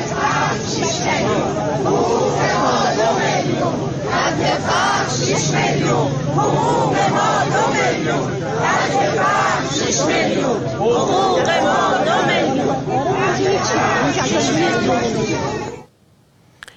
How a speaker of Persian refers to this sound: در اینجا ابتدا ویدیویی داریم از تجمع اعتراضی بازنشستگان در تهران در مقابل سازمان برنامه و بودجه که روز سه‌شنبه انجام شد.